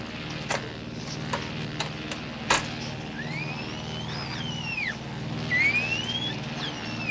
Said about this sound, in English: Ulla Nordstrand. She's been making recordings of dolphin language for the Bonita Lab. You want to hear some?